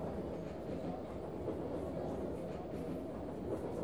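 Steady, low rumbling ambience from inside a moving train carriage, a constant droning roar with faint rhythmic rattling, even in loudness throughout and no voices.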